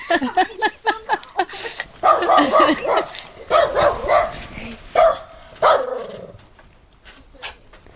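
A dog barks repeatedly and loudly, a fast run of sharp barks followed by longer, more insistent bursts with yips, then tapering off into quieter, scattered sounds.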